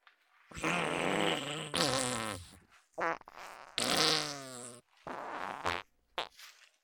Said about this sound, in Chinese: 啊，对不起主人，我们专心帮主人搓背，专心放屁给主人闻。